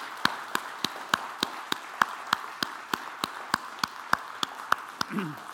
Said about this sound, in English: if you're a mom, just please stand where you are right here, right now, mother, grandmother, obviously, stand. We just want to give you some applause. Thank you for your sacrifice.